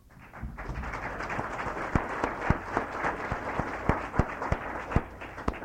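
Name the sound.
round of applause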